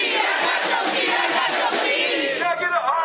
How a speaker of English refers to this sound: After 3 hours and a meal, the crowd took to the street.